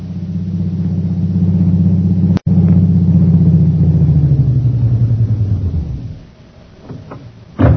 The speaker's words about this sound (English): Meanwhile, back in Mandalay, a taxi drives onto the flying field, its shades closely drawn and its lights dimmed.